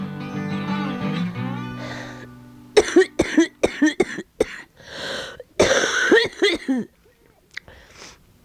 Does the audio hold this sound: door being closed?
no